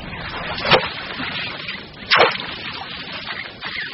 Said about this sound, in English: First, they must chisel a hole through the ice to reach the water below.